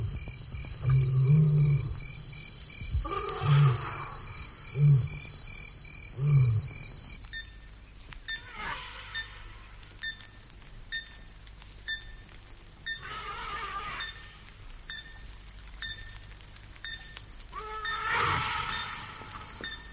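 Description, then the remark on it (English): Deep, forceful elephant calls and a harsh trumpeting blast, warnings as a group of lions passes near the herd, break out over a steady series of sharp, metallic pings from an epauletted fruit bat repeating every second or so, with a thin insect-like whine behind them. “When a group of lions passes near to a herd of elephant, for instance, even these biggest of land mammals respect their presence, and warnings are trumpeted amidst the metallic anvil sound of the epauletted fruit bat.”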